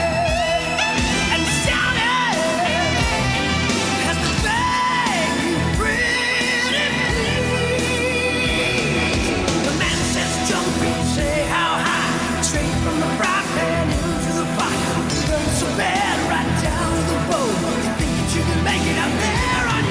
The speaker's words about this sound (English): can everybody hear the screaming?